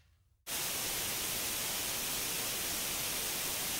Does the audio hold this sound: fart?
no